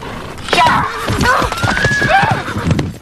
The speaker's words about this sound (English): Hutch whacks Elizabeth's horse and it charges off.